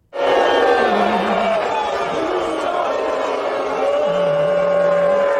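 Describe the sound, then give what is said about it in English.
A large crowd at a watch party in New York City booing President Trump loudly and continuously, a dense wall of many voices jeering together, sustained at full volume from start to finish with no pauses. “The president was also booed at watch parties across the Big Apple.”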